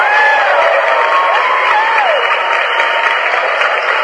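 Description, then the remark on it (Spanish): A loud burst of crowd applause sound effect with cheering, dense steady clapping and a few rising whoops on top, filling the whole few seconds without letting up, celebrating someone paying off their first debt with the help of Defensa del Deudor. “gracias a Defensa del Deudor ya pagó su primer deuda, por supuesto, los aplausos.”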